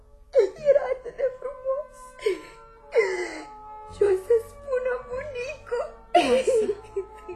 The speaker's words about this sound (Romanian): de ce plângi? Copii! Copii! Mi-au spart ulciorul! Îl aveam de la mamă!